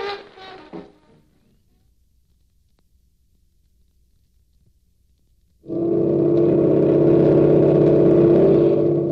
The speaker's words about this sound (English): Coming in from a high-speed trial run, a new Navy boat edges gracefully up to a mooring.